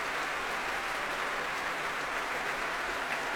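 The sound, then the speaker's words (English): A large concert audience applauds steadily as Tadaki Otsaka and Jonathan Lamalu come back onto the stage to take another bow. The applause is a dense, even wash of clapping that holds at the same loudness throughout without fading, with no voices over it. “The applause doesn't really sound like it's abating in any way, does it?”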